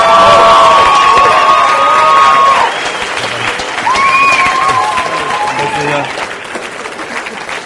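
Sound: audience applause and cheering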